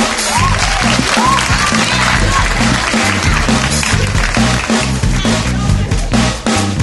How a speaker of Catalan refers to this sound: Un fort aplaudiment.